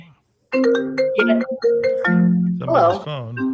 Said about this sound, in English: Somebody's phone. No, sorry. I don't know if it responds to no. Answer that.